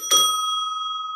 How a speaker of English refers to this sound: So what do you want to hear? A bell.